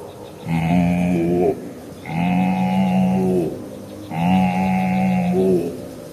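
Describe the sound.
A human voice imitates a cow, giving three long, loud moos in steady succession, each lasting about a second with short pauses between, clear with no other talk.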